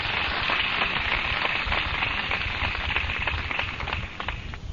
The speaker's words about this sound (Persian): خب باران زیاد شد، من باید کوتاه بکنم یه مقداری. دوستان عزیز اجازه بدین، باران زیاد شده، همه ناراحتن.